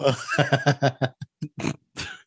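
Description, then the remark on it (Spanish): A voice imitates the distressed bellow of a cow that collided with a train, in a string of rough, guttural bursts, several quick grunts followed by a few separated throaty cries, loud and with no other talk. “Eso fue el ruido que fixo a vaca cuando chocó con tren.”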